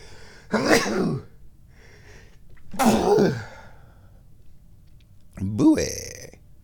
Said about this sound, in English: And now I think I will sneeze. Or maybe not. Or maybe I will.